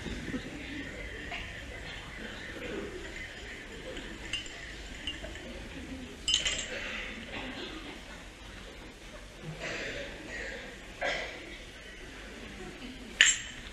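A spoon clinks against a coffee cup a handful of times as a man at the table drinks his coffee, each a short bright chime spaced a few seconds apart, over a soft, steady background murmur.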